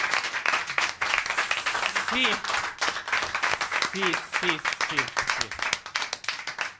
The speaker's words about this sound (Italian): Un applauso dovuto e presente al maestro Bertolt Brecht. Grazie.